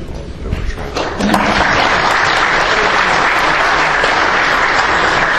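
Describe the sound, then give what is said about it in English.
An audience applauds as a speaker begins a talk; the applause swells after the first second into a steady, dense clatter of many hands clapping, loud and sustained throughout with crowd noise underneath. “We'll see if I can make the regret the applause in 20 minutes.”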